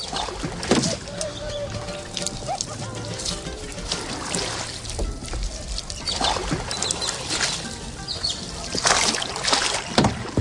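Boats moving along a canal at Xochimilco, Mexico City, about 20 kilometres from the Zócalo, with steady splashing and sloshing water throughout, occasional knocks and a faint tonal murmur in the background.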